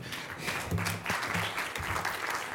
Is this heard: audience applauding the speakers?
yes